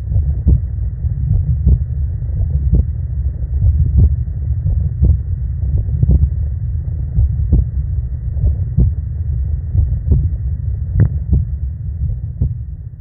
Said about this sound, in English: So just to send us off, here's my unfortunate heartbeat.